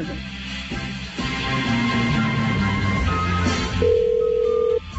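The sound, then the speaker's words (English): A telephone ringback tone sounds over a phone line while calling a cell phone, steady electronic tones with brief gaps, fairly loud, with no one speaking. “All right, we're calling his cell phone.”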